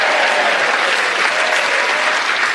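An audience claps loudly and steadily for the week's winner, Paul Merton, a dense, sustained burst of applause with no voices rising above it.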